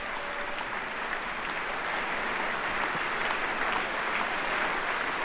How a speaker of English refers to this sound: The president is actually at the lectern, and he shall begin in just one moment. The president facing a chamber, all on their feet, all applauding the commander-in-chief.